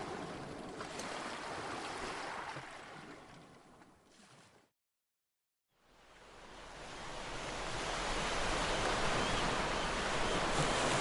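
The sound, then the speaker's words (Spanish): Ocean waves break on a beach in a loud, steady rushing wash. It cuts to a second of silence midway, then the surf swells back in even fuller. No voices. “Cuando Cuca conoció el mar, no pudo contener sus emociones.”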